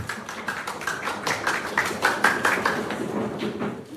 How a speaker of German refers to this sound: Einen Applaus bitte.